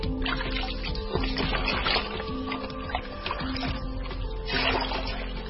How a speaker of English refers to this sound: We are now fetching water for bathing. The water is also used for cooking, washing clothes.